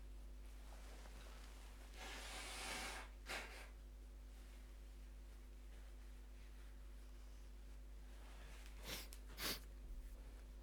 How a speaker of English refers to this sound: I need to blow my nose again. I'm going to turn away from the microphone.